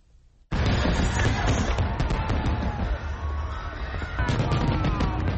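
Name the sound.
fireworks exploding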